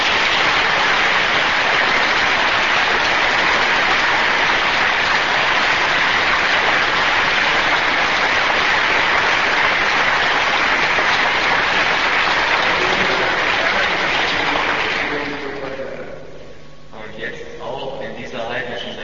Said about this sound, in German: Wenn ihr wollt, dass ihr jetzt noch mehr lächelt, dann macht jetzt bitte einen großen Applaus der Liebe zum eucharistischen Jesus.